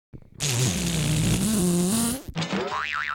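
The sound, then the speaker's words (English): A voice imitates farting with a long, loud, buzzy raspberry lasting about two seconds, followed by a short wobbly squeal with a rising and falling pitch. “Can you make the noise of farting?”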